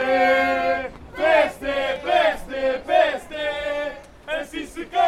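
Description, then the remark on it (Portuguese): About half a dozen young people in orange T-shirts at a Lisbon election campaign event chant and shout in loud, rhythmic bursts, including shouts for Teresa. Each phrase is roughly a second long, with brief pauses between the strongly pitched, sung-out calls. “E a meia dúzia de jovens com t-shirts de laranja lá começou a cantar.”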